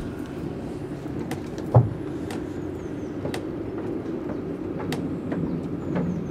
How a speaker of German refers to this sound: In regelmäßigen Abständen rauscht ein Tram über die nahe Wettsteinbrücke. Sie schlägt einen weiten Bogen über den hier gut 200 Meter breiten Rhein.